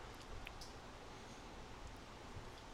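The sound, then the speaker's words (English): Steady, soft hiss of rain falling, an even wash of noise with a few faint scattered patters, fairly quiet and continuous throughout, with no voices. “So we have the white noise of the fans and the white noise of the rain.”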